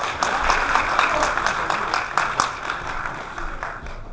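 An audience applauds steadily for several seconds, a dense wash of many hands clapping at once with no one speaking over it.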